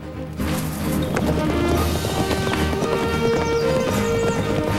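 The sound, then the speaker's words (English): Horses galloping at a steady pace through a sunny clearing ablaze with red and gold leaves, their hooves clip-clopping loudly and continuously, with music playing underneath throughout. “Tyler, Jesse and Jordan gallop through a sunny clearing ablaze with leaves of rich red and gold.”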